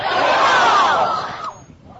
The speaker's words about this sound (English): So a great job there by the crowd saying, let's play ball. You can tell this is a big crowd excited to watch some playoff baseball.